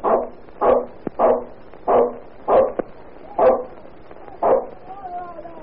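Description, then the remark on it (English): A dog that has smelled smoke from a fire in a tenement house at about 3 in the morning barks repeatedly in a steady series of about seven loud barks, ending with a few thin, high whimpering whines. “Ginger sniffed the smoke and started to bark”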